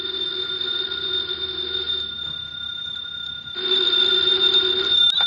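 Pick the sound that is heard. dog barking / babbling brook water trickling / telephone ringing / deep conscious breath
telephone ringing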